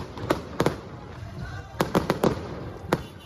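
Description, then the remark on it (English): At an election rally in Lahore, Pakistan, sharp fireworks bangs burst irregularly, some in quick clusters, over a continuous low murmur of an excited crowd, with faint rhythmic drum thumps mixed into the background. “Fireworks, drums and an excited crowd. This certainly felt like a victory rally, but the results aren't final and this party isn't in the lead.”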